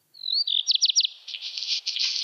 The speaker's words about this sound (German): Und zwar ist der erste Kandidat der Hausrotschwanz. Ich spiele den Gesang nochmal ein. Vielleicht erkennt ihr das wieder aus diesem kleinen Intro-Song.